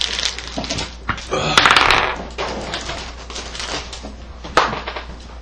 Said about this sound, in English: I open the door. Open the door, and inside you guys see a musty, dusty